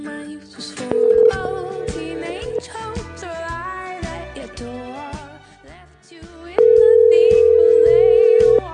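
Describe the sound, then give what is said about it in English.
A steady telephone dial tone, heard after the phone was knocked off the receiver, drones twice, first briefly and then loud and sustained near the end, over a busy background of singing or music. “He just knocked the phone off the receiver.”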